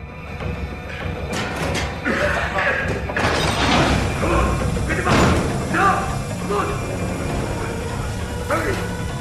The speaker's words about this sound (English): They hurry to Heller's cell and force back the bolts from the door.